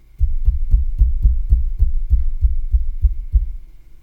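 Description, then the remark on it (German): Light knocking on a microphone stand: about a dozen dull, low-pitched thumps in a steady rhythm, roughly three per second, with no voices. “Ich habe jetzt ganz, ganz, ganz leicht gegen den Mikrofonständer geklopft.”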